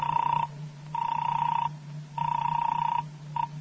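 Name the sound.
telephone ringing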